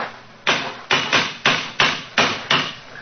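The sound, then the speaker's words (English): A cane knocks hard on stone seven times in a quick, slightly uneven rhythm, each sharp, loud rap ringing briefly before the next. No one speaks. “Yes. It's a hard knock.”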